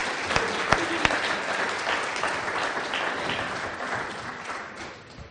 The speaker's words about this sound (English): Oh, they have done so well. Shall we give them a clap? Thank you, guys.